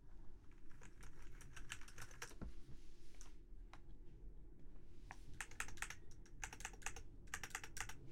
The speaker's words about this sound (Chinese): 平常呢，工作的时候和打游戏的时候会使用的键盘是这一把。